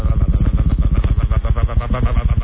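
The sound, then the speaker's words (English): A voice imitates the sputtering, shuddering engine of a boat that has hit something while cruising, with rapid, rough pulses that judder unevenly, loud, lasting a couple of seconds. “And the boat starts going...”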